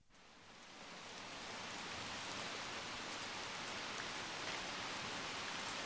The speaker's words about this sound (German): Prag, der Bahnhof. Regnerischer Spätabend.